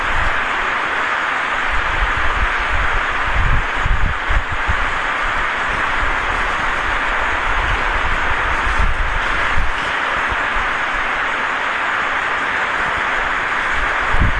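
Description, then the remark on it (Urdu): Loud electric fans run steadily, one or two of them louder than the rest and drowning out other sounds, a constant broad whooshing hum with a slightly uneven low rumble underneath, unchanging for the whole stretch and with no voices. “ایک دو پنکھے ایسے ہیں جن کی آواز سب پر حاوی ہے.”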